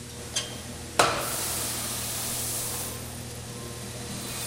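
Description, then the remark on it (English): Freshly roasted coffee beans from a German-made Probat roasting machine crackle as they are pulled out and cooled, with a couple of sharp pops at the start giving way to a steady, dense sizzling hiss over a low, constant machine hum. “When you pull anything out in this mass, you can hear it still crackling.”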